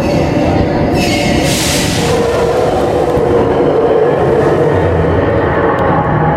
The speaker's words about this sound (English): The train stops.